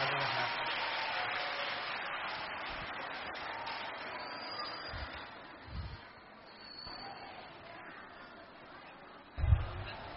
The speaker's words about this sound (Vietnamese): Một lần nữa xin toàn thể các bạn phát sinh chúng ta cùng trang nghiêm đứng lên để vỗ những tràng pháo tay thật cao, thật giòn giã để tri ân giáo sư A Di Đà Phật. Xin cảm ơn giáo sư.